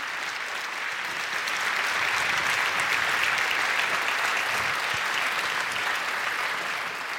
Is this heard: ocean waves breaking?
no